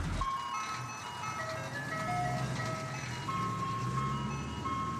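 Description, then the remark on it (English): A tinny ice cream truck jingle plays continuously from a roof-mounted loudspeaker as the truck drives off up the street, its bright melody ringing over a low engine rumble, steady throughout. “Then the truck was driving off, the ice cream truck jingle cracking cheerfully from its roof-mounted speaker.”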